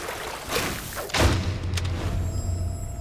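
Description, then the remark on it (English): The heavy front door of a house slams shut once with a deep thud, leaving a low rumbling resonance and a faint high ringing tone afterward. No one speaks. “The door closes and a shaft of blue light shines down through the window above it,”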